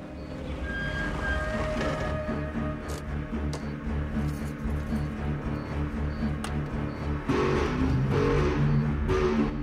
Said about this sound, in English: She puts on a thin dressing gown as Smith's car pulls up in front of the house.